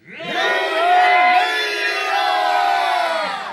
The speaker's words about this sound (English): The long patrol warriors, backed by a horde of yelling otter slaves whom they had freed.